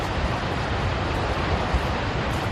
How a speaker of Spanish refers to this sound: En Sevilla, cualquiera que haya visto las imágenes del pantano de Jergal desembalsando agua, como estás escuchando, sabe que no ha podido caer más agua en los últimos días